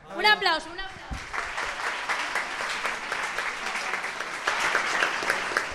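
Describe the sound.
A voice calls out briefly, then an audience breaks into sustained applause for a guest about to sing, a dense, steady patter of many hands clapping that grows slightly louder toward the end.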